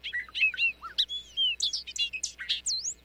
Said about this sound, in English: Loggerhead shrike, stuck on a raptorial passerine. This bad boy is a songbird that hunts.